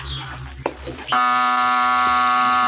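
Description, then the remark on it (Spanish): A low rumble and a sharp click as a half-hidden lever in a cave wall is pulled, then a loud electric buzz from a secret wall mechanism kicks in abruptly and holds steady, harsh and droning, until the end, as a cave wall slowly moves. “Y se oye un zumbido eléctrico.”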